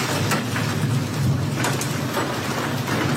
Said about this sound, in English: Hail falls on Sabrina Devers' property in Perryton, Texas